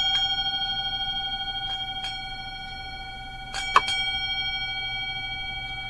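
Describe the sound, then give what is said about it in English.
A ritual bell rings with a steady, shimmering metallic tone that hangs throughout, with light strikes early on and then a louder pair of quick strikes in close succession, the two-bell set rung once the energy is raised for the ritual work. No one speaks. “And then a bit later on, when you've raised the energy and you're ready to do the serious work, you get a second set where it's two bells for each one.”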